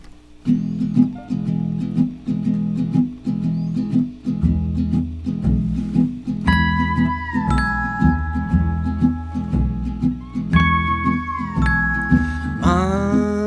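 A band plays an instrumental intro over a steady, bouncing bass line, with sliding steel guitar notes swelling and bending above it and bright chime strikes ringing out. No one speaks.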